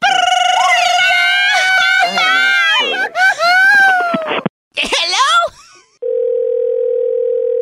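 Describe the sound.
A loud, warbling crowing voice in a Cinco de Mayo wake-up call cuts off abruptly as the call disconnects, followed by a steady, unbroken phone dial tone humming alone at an even volume until the end.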